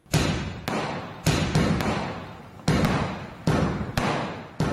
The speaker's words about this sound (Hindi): ये आवाज़ें इंडिया के शहर दिल्ली में दिवाली के मौके पर चलाए जाने वाले पटाखों और आतिशबाजी की है।